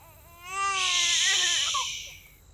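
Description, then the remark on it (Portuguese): A baby cries in one sustained, wailing burst with a shrill, strained edge, rising quickly and then trailing off into a shorter whimper. It is fairly loud, with no talking. “Os bebés choram quando estão com fome.”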